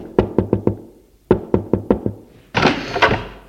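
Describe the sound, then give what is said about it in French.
A father raps his knuckles on his daughter's bedroom door: a quick run of four knocks, a short pause, then about five more, followed by a brief rough scraping noise. “Frappe à sa porte.”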